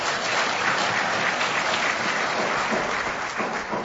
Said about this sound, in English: Oh, go ahead and clap.